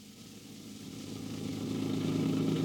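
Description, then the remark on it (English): A car engine hums steadily with low harmonic drone, growing gradually louder over a few seconds as the vehicle drives along, no voices present. “A car, an automobile.”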